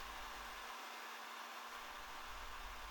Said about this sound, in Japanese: びっくりしました。ドライヤーというのですか？まるで火を吹く竜みたいですね。